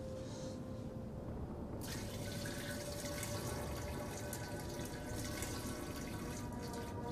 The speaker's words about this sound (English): Fearfully watching the open door, Michael goes to the toilet and has a pee.